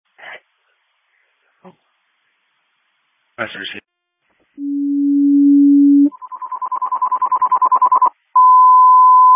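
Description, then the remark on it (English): Loud fire station dispatch alert tones for the Crystal Lake Fire Department, station 1: after a few brief radio bursts, a steady low tone sounds, then a rapid pulsing warble, then a long steady higher tone. “Can I get a general alarm phone through the station 1 for station coverage, please?”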